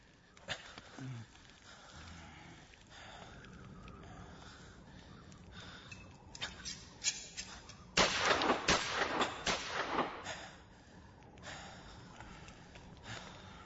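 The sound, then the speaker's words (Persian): Several gunshots are fired as a signal, so that the sound may reach a base and bring help: a few sharp isolated reports followed by a louder, denser burst of firing that fades, with faint rustling and breathy noises in between and no speech. “حالا باید بشینیم و دعا کنیم باید صدای گلوله را به پایگاه ببره.”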